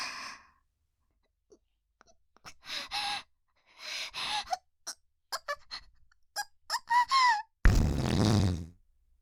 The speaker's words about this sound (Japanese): おならで充満しちゃいそう。 本当にマッサージ効いちゃってるんだ。